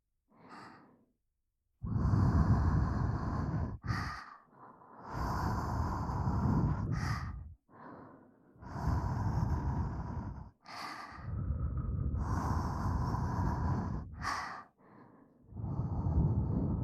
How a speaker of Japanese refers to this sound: こうしてお耳にふーってしている間にわかるから